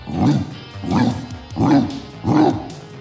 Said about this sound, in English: It wasn't actually a diesel truck, see? Just looked like one and sounded like one. It was Rambo. He came loping out of Maggie's backyard like a big racehorse, and his bark rattled windows all over the neighborhood.